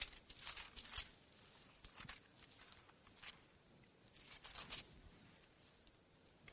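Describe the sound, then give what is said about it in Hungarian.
Soft rustling of thin Bible pages being turned to Romans chapter 8, several quick flicks and shuffles in irregular bursts over a few seconds, with no one speaking. “fejezetében, ha jól tudom, a 16-os igében olvashatjuk, de mindjárt oda lapozok én is a Bibliámba.”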